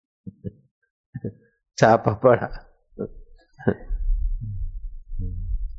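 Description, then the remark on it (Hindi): Two pairs of low, soft heartbeat thumps play alone at the start, each a quick lub-dub. A man then speaks over a faint low rumble. “छापा मारा मल्हाड़ में और धड़कने चलती है शांता क्रूज वाले व्यापारियों के दिल में।”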